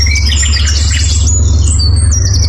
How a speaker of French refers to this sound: Le chant des oiseaux guide la visite de sa propriété.